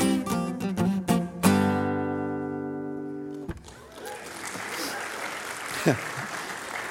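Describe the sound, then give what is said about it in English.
A held final musical chord ends a song sung from Satan's point of view, rings out and cuts off, then a crowd breaks into steady, moderately loud applause that continues to the end. “It's always a funny thing to get applause after you sing that you're Satan.”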